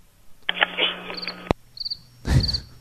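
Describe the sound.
A voice imitates a cricket with three short, high trilled chirps spaced about a second apart, alongside breathy hissing noise. It is moderately loud, with no words spoken.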